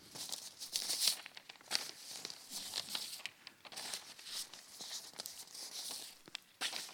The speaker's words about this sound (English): What are you thinking as I'm turning the pages?